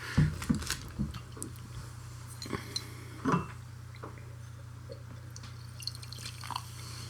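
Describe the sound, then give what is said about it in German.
Water drips and splashes alongside clinks of glass and small clatters as tasting glasses are rinsed, with a steady low hum running underneath. The sounds come in short irregular bursts, loudest near the start and again midway. “Richtig, wir sind hier am Schaffen, wir müssen hier unsere Gläser wieder ausspielen und alles.”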